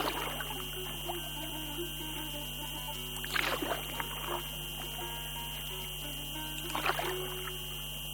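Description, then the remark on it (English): Oars of a rowing boat heading to Ashurada Island splash through sea water in two slow, evenly spaced strokes, each a soft rushing swish, over a steady low hum and faint lapping sea waves; no one speaks. “The sound of sea waves and the noise oars make with water is really pleasant.”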